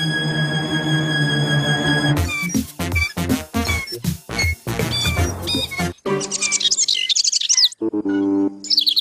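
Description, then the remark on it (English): Baby Bird from the show Pocoyo chirps and tweets in quick, high-pitched, loud bursts over a light musical backing, with the chirping growing busier toward the end. “Baby Bird says pushing Pocoyo is his job, Ellie.”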